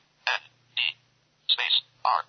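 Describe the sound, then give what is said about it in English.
Four short, buzzy electronic blips from a mobile phone keypad sound at uneven intervals as someone types text into an edit field using the phone's keys, each a clear press tone with quiet gaps between, and no one speaking. “I'm using the keys on my phone to type blind radio”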